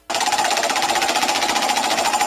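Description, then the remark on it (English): A young girl imitates a car horn for the Wheel of I Won What, with one long, buzzy, rattling tone, held at steady loudness for just over two seconds with no other talk. “She's too young to drive, but she's gone with the car horn.”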